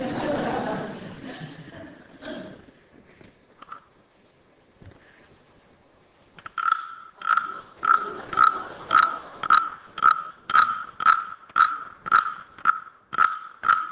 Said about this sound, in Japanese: 遺跡のあっちこっちからこの声が聞こえるんですよ。カエルの音がするですね、おもちゃです。